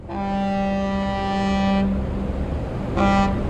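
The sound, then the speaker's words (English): A ferry boat crossing the Bosphorus from Asia to Europe in Istanbul blasts its horn loudly, one long toot of nearly two seconds followed by a shorter second toot, over a steady low rumble of engine and water. “This is the ferry boat crossing the Bosphorus from Asia to Europe.”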